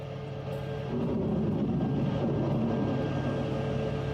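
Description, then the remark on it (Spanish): Russian-made Kalibr cruise missiles launched by a Russian submarine crew in the Black Sea at Ukrainian military targets, breaking the sea surface and climbing into the sky: a steady, heavy rocket-like roar that swells louder after the first second, then holds as a dense, rumbling rush with a faint whine above it. “Los misiles Calibre son proyectiles de alta precisión y alcance diseñados y fabricados en Rusia”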